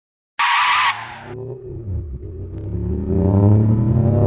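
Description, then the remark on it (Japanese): A sharp screeching burst cuts in, then a car engine rumbles and revs up, its roar growing louder over several seconds, with no voices present, as the car is about to hit a person on the way home from the movies. “僕は車にはねられ、体を地面に強く打ちつけて虫の息だった。”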